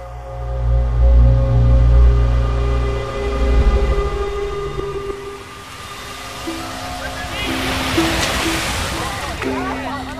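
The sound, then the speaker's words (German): Metre-high Pacific Ocean waves break and run up on a beach in Hawaii: a deep, rolling roar that swells and fades, then a loud hissing wash of surf near the end, with a steady musical drone underneath. “Vor euch erheben sich meterhohe Wellen, die wieder brechen und am Strand auflaufen.”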